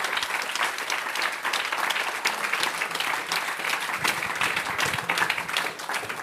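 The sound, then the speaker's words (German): An audience at the 12th Fine Crime Festival applauds the festival's two organizers steadily for the whole stretch, a dense, even wash of many hands clapping at a strong, constant level without letting up. “Bitte einen großen Applaus für dieses mörderisch gute Duo.”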